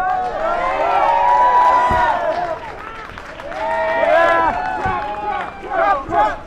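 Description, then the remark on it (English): A crowd cheers and shouts excitedly outside Rocket Town in Sobro as Trump pulls up in a black SUV, with many overlapping voices rising in bursts and some scattered clapping, the noise swelling loudly in waves throughout. “Trump arrived an hour early for his speech to the National Federation of Republican Assemblies, but there was an eager crowd waiting outside Rocket Town in Sobro as he pulled up in a black SUV.”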